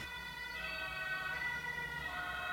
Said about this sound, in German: Achso, Tatütata. Tatütata.